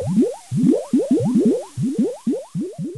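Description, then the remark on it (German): Rapid gurgling underwater bubbles rise in a steady, rhythmic stream of rising blips, fairly loud, with no voices. “Er sprang ins Wasser, tauchte unter”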